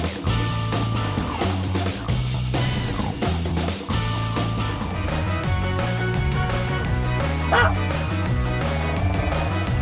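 A dog barks and yips repeatedly, loud, in short bursts over a dense, steady background of sound that fills the whole stretch.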